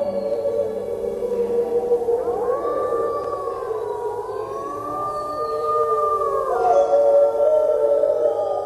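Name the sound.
dogs howling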